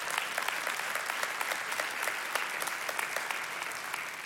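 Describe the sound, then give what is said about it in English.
A church audience applauds the news that 68 people have put their hope in Jesus, with steady, dense clapping that holds at an even, moderate loudness for several seconds, the sharp overlapping claps forming a continuous wash with no voices. “Yeah, we can applaud that.”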